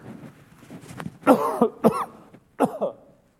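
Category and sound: human body sound, cough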